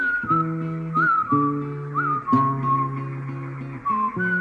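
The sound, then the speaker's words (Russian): A man whistles a wavering, gliding tune at steady moderate volume in central Siberia, backed by sustained low instrumental chords that shift every second or so, with no talking. “Не свисти, дороги не будет.”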